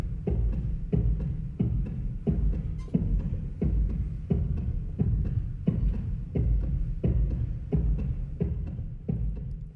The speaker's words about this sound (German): Unverkennbar ein Herzschlag.